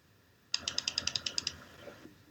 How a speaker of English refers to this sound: Uh-oh. Who's playing with a keyboard? Dummy, I don't have a keyboard.